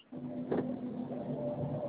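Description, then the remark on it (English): A garbage truck comes around the block with a steady low mechanical drone and a faint whining hum, a muffled thump near the start, heard alone through a narrow, phone-like connection. “Trash truck coming around the block.”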